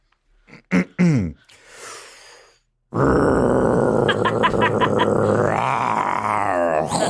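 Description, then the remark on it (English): A voice imitates a chainsaw: a few short throaty grunts, a brief pause, then a loud, sustained rasping drone for several seconds that shifts upward in pitch near the end. “do a chainsaw”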